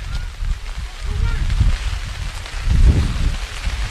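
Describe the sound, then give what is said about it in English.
Steady, dense rain hisses without letup at Jericho during a football game, with low gusty rumbles swelling twice and faint indistinct voices in the background. “And the rain is picking up here at Jericho as we can feel it.”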